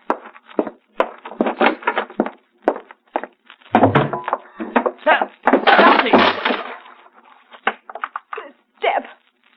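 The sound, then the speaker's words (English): A series of sharp wooden knocks and creaks builds to a loud splintering crack as a foot smashes through a wooden step, followed by scraping, rattling debris and a few more thuds. “I put my foot through.”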